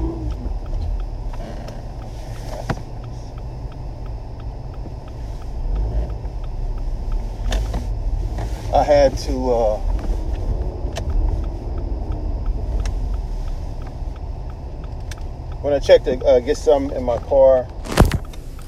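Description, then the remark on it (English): A car engine starts up and settles into a steady low rumble, with a few sharp clicks and brief bursts of chirpy, warbling tones over it. “I noticed the air pressure after when I turned my vehicle on.”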